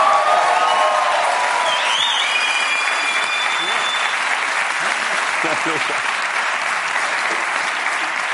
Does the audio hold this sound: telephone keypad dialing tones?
no